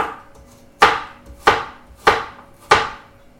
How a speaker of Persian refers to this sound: دو تا دونه سیر دارم که سیرهامونم خورد میکنیم.